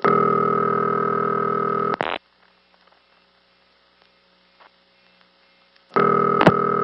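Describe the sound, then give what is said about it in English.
A loud, steady buzzing telephone line tone, the phone company's busy number verification signal used when an operator had a busy line checked, plays for about two seconds, cuts to near silence for several seconds, then returns at the end. No one speaks. “That's busy number verification, a free service the phone company used to provide, where if a number was busy for an extended period of time, you could ask your local operator to have the line checked”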